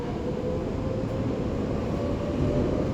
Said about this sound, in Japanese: 埼玉高速鉄道埼玉スタジアム線をご利用いただきましてありがとうございます。この電車は名古屋赤羽岩淵方面南北線直通白金高輪行きです。次は東川口 JR 武蔵野線がこの駅です。